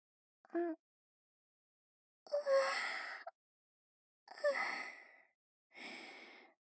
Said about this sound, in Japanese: あくび出ちゃった。